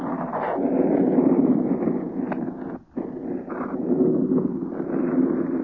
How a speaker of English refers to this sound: Perhaps can hear the roaring of their motors. 36, 38 planes against the wind that's rushing through the rigging of this mast top.